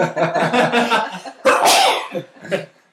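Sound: sneeze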